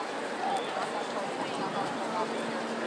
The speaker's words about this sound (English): Sounds like a police officer walking past, somebody with a radio, anyway.